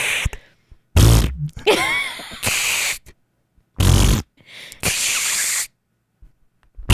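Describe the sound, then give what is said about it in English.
Several bursts of air leaking from a soft latex sleep mask worn on a sleeper's face sputter and hiss, some with a low wet flapping rumble like a fart, others a breathy spray, separated by short silences. “I'm making a fart noise without even having to try.”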